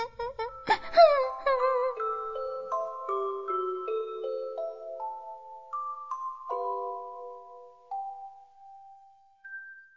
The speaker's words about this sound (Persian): بله بچه ها، گنجش کوچولو دوباره زد زیر گریه.